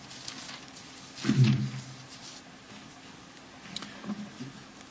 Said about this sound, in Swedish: Det kommer att störa lite eventuellt det här bläddrandet här i ljudåtergivningen.